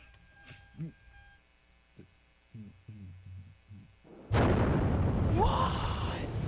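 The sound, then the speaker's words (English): A loud explosion sound effect erupts suddenly after a few quiet seconds of faint murmuring, its broad roaring blast sustaining with crackling debris-like hiss until the end. “If you couldn't hear that, but there was an explosion that happened.”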